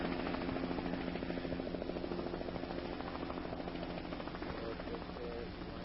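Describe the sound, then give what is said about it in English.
A helicopter drones steadily, its rotor blades beating a rapid, even chop over a loud engine whine that holds constant throughout, as it flies in a delivery of New Testaments. “Excitement mounted the day helicopter pilot Tim Lithgow shuttled in the New Testaments.”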